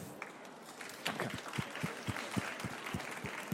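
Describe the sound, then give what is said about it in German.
Scattered applause from an audience welcoming an author at the start of a book reading, a steady patter of hand claps that grows denser after the first second and continues at moderate volume with no voices over it. “Und jetzt wünsche ich euch eine super spannende Lesung und einen herzlichen Applaus”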